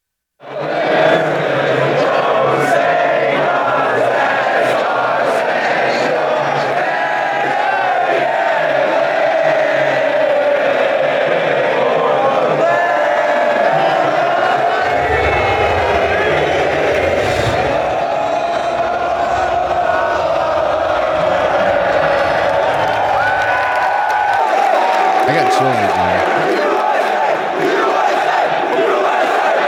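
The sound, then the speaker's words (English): A huge arena crowd roars and chants in unison during the pregame while teams warm up, a dense, sustained wall of voices with rising shouts and cheers rolling through, recorded from a fan's position in the crowd, with analysts talking in the background. “this is during the pregame where all the analysts were still talking in the background, but this is from a fan angle in the crowd.”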